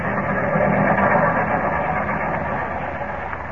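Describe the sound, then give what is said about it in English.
The 941 train rumbles into a station on track 6 with a loud, steady mechanical roar and a rough, grinding hiss that holds even throughout, easing only slightly toward the end. No one speaks. “941 arriving on track 6.”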